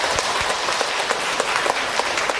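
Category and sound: crowd, audience applause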